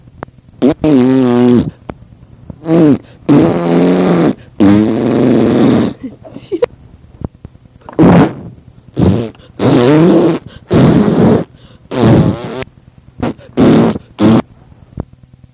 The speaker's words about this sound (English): Let's hear another big fart